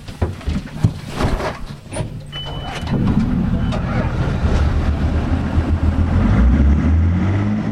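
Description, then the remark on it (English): A small boat's motor rumbles steadily and fairly loud across open water in southeast Alaska as it heads out from Wrangell to a cable repair ship. It settles into a constant low drone after a few seconds of scattered knocks and bumps. “I'm on a boat from Wrangell heading out to the Wave Venture.”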